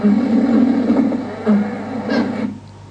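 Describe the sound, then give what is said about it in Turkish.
A honeybee's scream during a waggle dance: a loud, harsh, low-pitched buzzing that swells in a few rough bursts over a couple of seconds, then cuts off abruptly, leaving near quiet. “Yine beyaz nokta çıktığında bir çığlık daha duyacağız.”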